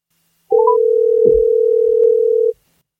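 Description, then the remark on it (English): A steady telephone dial tone sounds for about two seconds as a phone call is placed, a single unbroken pitch held evenly, with a couple of faint clicks and a brief thump partway through. “I don't know if I can get him on the phone or not, but I'm going to try.”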